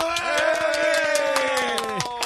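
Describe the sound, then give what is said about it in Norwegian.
Scattered studio audience applause welcoming Sna of the band a band, irregular claps rising and falling, over a steady sustained tone that holds throughout and slides downward near the end. “Mine damer og herrer, stor applaus!”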